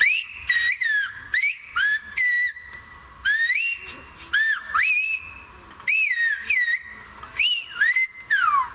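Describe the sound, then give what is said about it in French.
A Silbo Gomero whistled Spanish phrase from La Gomera in the Canary Islands: loud, piercing whistles with rising and falling pitch glides, delivered in a series of short bursts separated by brief pauses, like speech melody carried by whistling. “C'est peut-être la plus connue des langues sifflées. Vous la pratiquez d'ailleurs, c'est l'espagnol sifflé des Canaries.”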